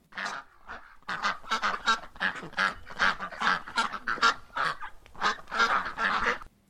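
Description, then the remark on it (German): A flock of geese honks in a steady, overlapping chatter, loud, with ducks quacking among them; the calls keep coming in quick bursts for the whole stretch, with no voices. “Früher war der Bach unbefestigt und so tummelten sich Enten und Gänse in ihm.”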